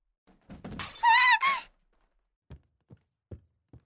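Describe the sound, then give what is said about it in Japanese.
A clattering thunk as dishes are accidentally dropped and hit the floor, breaking, followed by a bright, ringing ceramic rattle that fades out, then four soft, evenly spaced footsteps. “不安になった私はうっかり食器を落としてしまった。”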